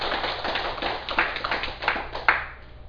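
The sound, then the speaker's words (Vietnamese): An audience at a Buddhist dharma talk applauds steadily for a few seconds, a dense wash of many hands clapping with a few sharper claps standing out, before it begins to fade near the end. “Xin quý vị vỗ tay một tràng pháo tay.”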